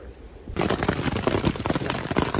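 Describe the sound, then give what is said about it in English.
Marble-sized hail falling across a lake starts abruptly after a brief quiet moment, a loud, dense clatter of rapid popping impacts that keeps up steadily without letting off. “It's hailing. The size of marbles. Sounds like popcorn.”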